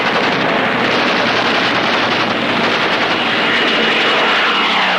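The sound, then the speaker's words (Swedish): British and French bomber aircraft attacking the pontoon bridges over the Meuse roar loudly and steadily throughout, a dense, unbroken engine drone with a harsh rattling texture layered over it and no one speaking. “Brittiskt och franskt bombflyg anföll pontonbroarna över Mös med hänsynslös djärvhet.”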